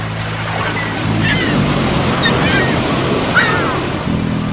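Sea waves at Brighton wash steadily onto the shore in a continuous broad rush that swells after the first second, with a faint low hum in the background and no voices.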